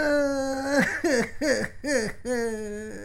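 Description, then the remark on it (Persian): A high-pitched voice of a colored-pencil character cries in a series of wavering, sobbing wails: one long drawn-out note, then several short broken sobs and a final sustained wail, fairly loud. “قلم رنگ جان من گپ بدی زدم، گریه نکو دیگه جان خاله.”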